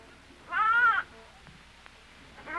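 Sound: sheep bleating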